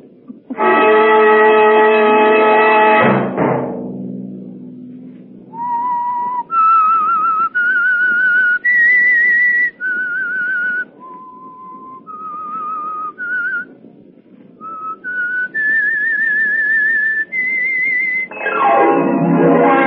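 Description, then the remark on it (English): The theme of the radio program The Whistler: a loud, rich chord-like blast gives way to a solo whistled melody of about a dozen clear, sustained notes stepping up and down in pitch, before another full tone swells in. “Next Monday at 9 o'clock, the Whistler will bring you another strange tale.”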